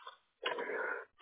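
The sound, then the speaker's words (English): A single sneeze bursts out, fairly loud, lasting about half a second with a muffled, phone-like tone; a brief breathy sound follows just after. “Bless you.”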